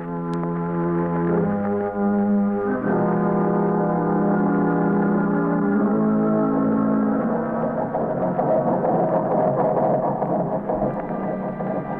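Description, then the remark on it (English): A ship's engine runs at full speed ahead during an engine test, with a loud, steady droning hum, its tone stepping lower early on, then turning rougher and more churning as it builds. No one speaks. “Engine room standing by, Commander. Ship full speed ahead.”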